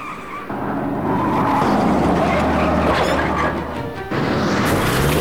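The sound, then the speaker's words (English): Loud, roaring car engines race by with bursts of harsh, high-pitched tire squeal and gritty scraping as sprays of gravel fly up from the tires, the noise steady and dense for several seconds with a brief dip near the end. “Sprays of gravel fly up from the squealing tires.”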